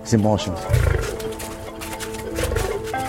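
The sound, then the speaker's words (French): Deep, rumbling lion roars rise twice in the background while a person talks steadily over them, the low growls swelling and fading beneath the voice. Four lions are in a large enclosure with a fence over 4 metres high; they come from the Aleppo zoo in Syria. “À côté de l'espace réservé à Sultan, un vaste enclos entouré d'un grillage de plus de 4 mètres de haut où 4 lions se font dorer au soleil.”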